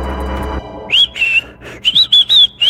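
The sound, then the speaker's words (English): A person whistles a high, wavering, multitonal tune in several quick bursts with short gaps, fairly loud, after a brief low rumbling noise at the start. “Are you whistling?”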